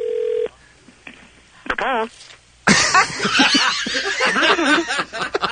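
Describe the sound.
A brief steady electronic phone tone sounds at the start as a phone call is placed, followed by a couple of faint clicks, a short burst of laughter, and then loud, animated voices talking over each other.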